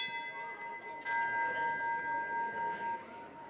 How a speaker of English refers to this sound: And so I invite us to stand and turn and greet our neighbors, and then to remain standing after I ring the bell for our call to worship.